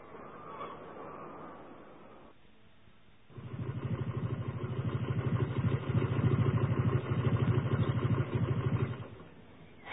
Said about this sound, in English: The motorbike I'm sitting on is a very special one. Special because it's been all the way around the world.